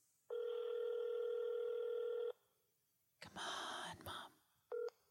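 A telephone line tone from a phone call being placed hums steadily for about two seconds, followed by a brief burst of rough noise and a short final beep, fairly loud with no talking.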